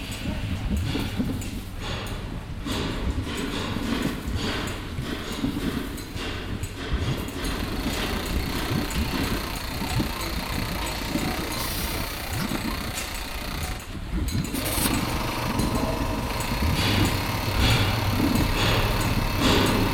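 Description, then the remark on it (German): Loud, continuous construction-site machinery: a dense engine rumble with irregular clanks and knocks running through the whole stretch, indistinct voices buried somewhere in the din. “Musik ist eine sehr spezielle Ordnung vom Klang und am Baustelle ist das zufällig.”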